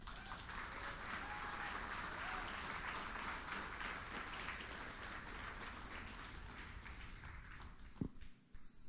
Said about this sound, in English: And if you could, if you guys could go ahead and give an applause and welcome